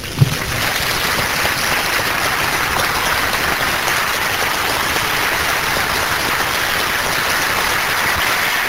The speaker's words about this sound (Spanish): Bien. Vamos a darle un aplauso a Cristo Jesús.